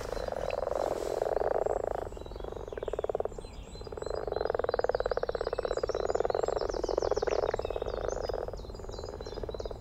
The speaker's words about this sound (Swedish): Jag vet inte om vi ska be Lisa i studion att spela upp lite vanlig groda